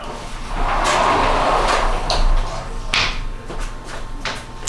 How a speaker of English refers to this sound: Hold on, I'm just going to shut this door. Hold on, one sec.